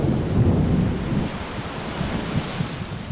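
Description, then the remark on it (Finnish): A heavy, booming rumble of thunder from lightning striking a short distance away rolls over a roaring, stormy sea, loudest at the start and settling into a dense, churning surf with no voices. “Salama iskee juuri pienen matkan päähän ja samassa ukkosen ääni peittää kaiken alle.”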